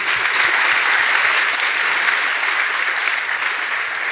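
An audience claps steadily for about four seconds for two guests after a discussion, a dense, even wash of many hands with no voices over it and no letup in loudness.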